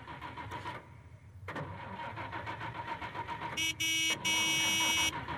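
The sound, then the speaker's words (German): A car engine cranks and turns over, settling into a steady rumbling run, then two loud horn honks sound over the engine noise, the second one longer, honked to help the car start. No one speaks. “Aber ich kann ja schon mal den Motor anlassen, ja?”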